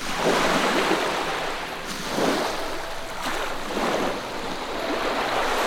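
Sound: ocean waves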